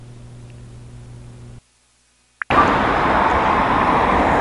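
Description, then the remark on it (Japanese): Street traffic at a bus stop in Japan where someone waits for a bus, around 16:12: a low steady hum, a brief drop to silence and a sharp click, then a loud, continuous roar of road traffic with no voices. “私はですね、今、立ち入れのバス停の前に立ち入って、バスを待っているところです。”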